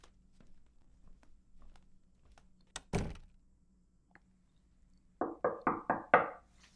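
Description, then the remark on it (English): A single heavy thud, a short quiet pause, then five quick, evenly spaced, fairly loud knocks on a bathroom door, with no voices. “Okay, I'll go to the bathroom, and once I'm done, I'll knock on the door and just tell me if you're done or not.”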